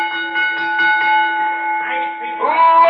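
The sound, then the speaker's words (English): A ring bell clangs in a quick run of strikes before a match, its bright metallic tone sustaining and overlapping into a steady ringing hum, fairly loud. “Bell me.”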